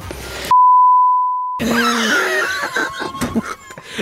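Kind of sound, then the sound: sound effect, long censor beep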